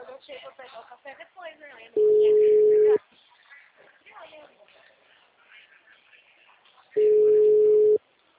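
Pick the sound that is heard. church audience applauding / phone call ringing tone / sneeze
phone call ringing tone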